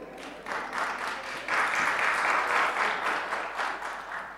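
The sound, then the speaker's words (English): A large audience breaks into steady applause and cheering in response to news that thousands of Chinese people are becoming Christians every day, a dense roar of clapping that swells louder after a moment and carries on without anyone speaking. “Don't you think that deserves like a cheer or something?”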